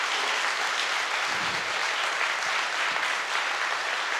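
Steady, sustained applause from a crowd at the Cursed is Queer event in Brighton, a dense wash of many hands clapping at an even loudness for several seconds with no voices standing out.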